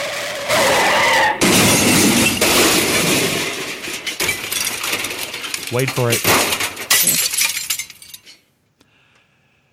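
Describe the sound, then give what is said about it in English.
A loud car crash as a car whose wheel came off at the axle crashes into two cars on the street in front of a house, with glass shattering and debris clattering for several seconds, a voice speaking briefly amid the noise, then everything falls abruptly quiet. “He crashed into both of our cars.”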